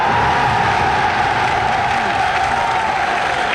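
A large crowd cheers and applauds after General de Gaulle's cry of "Vive le Québec libre", a loud, steady roar of clapping and shouting that holds for the whole few seconds, with no single voice standing out.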